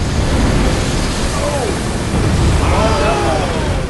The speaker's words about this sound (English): As the curl closes in around Anne-Marie, water crashes over her. She loses her balance and wipes out.